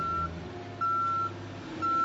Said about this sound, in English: Do you hear A, the sound of a truck backing up? B, the sound of a truck backing into your car? C, the sound of a cement truck backing up to pour the foundation for your new garage?